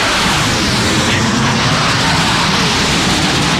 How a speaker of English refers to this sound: Sounds like a 737 MAX 8.